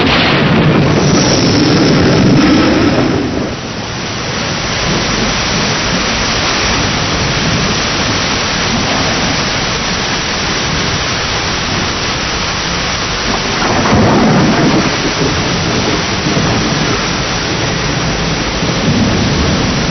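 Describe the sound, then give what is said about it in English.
Steady, heavy rain hisses for the whole stretch while deep rolls of thunder rumble through it, one near the start and another swelling midway. No voices are heard. “Nothing can stop us now except rain.”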